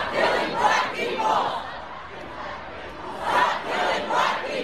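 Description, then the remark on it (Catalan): A large crowd of protesters against racial police violence in the United States chants in rhythmic, repeated bursts of shouting, the voices swelling and fading in waves over a steady roar of noise. “Les manifestacions són cada dia més nombroses i s'escampen com una taca d'oli per tota la geografia nord-americana.”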